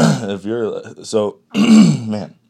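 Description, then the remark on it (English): A person who is getting over a lingering cough clears their throat and coughs in a few short, rough, voiced bursts, separated by a brief pause, loud. “Still got this cough.”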